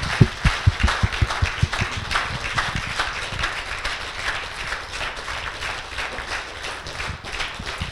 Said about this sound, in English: So let's give him another round of applause and thank God for him today.